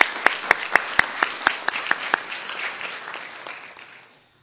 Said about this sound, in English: Let's give these folks a round of applause. They go the additional mile.